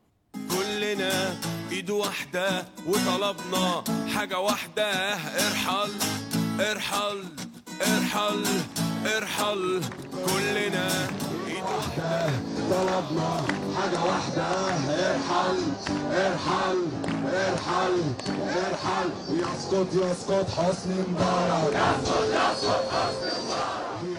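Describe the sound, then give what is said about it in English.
A large crowd chants the protest slogan "Irhal, irhal" in unison, loud and continuous, with rhythmic shouted phrases repeating over a dense wash of voices for the whole stretch. “The crowd salute back. Irhal, irhal. And that chant, in fact, has become a song.”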